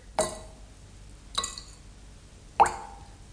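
Three separate wet plops about a second apart as a drop of blood is put into a litre of water, each a quick splashy hit with a short ringing tail, the last one a little fuller and more resonant, with no talking.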